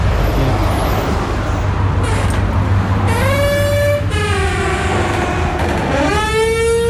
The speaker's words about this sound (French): C'est la porte d'entrée du club de gym. Hein. Faut pas se méprendre, même si elle fait un drôle de son.